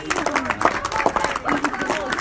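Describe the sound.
Scattered clapping from a crowd, a dense patter of hand claps at steady loudness, mixed with voices and cheering throughout the short burst.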